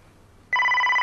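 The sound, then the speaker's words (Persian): A telephone suddenly starts ringing halfway through, a loud, steady electronic tone with bright harmonics that continues to the end after a quiet moment of faint background hum; the phone is left unanswered. “در ضمن خیلی بده که اون تلفنو جواب نمیدی.”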